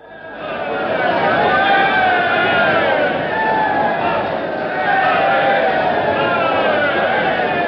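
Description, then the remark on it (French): A concert audience heckles Igor Stravinsky angrily, a dense roar of many overlapping voices shouting and jeering at once. The noise stays loud and unbroken throughout, rising and falling slightly in waves. “c'est une réaction fâchée, comme vous pouvez l'entendre.”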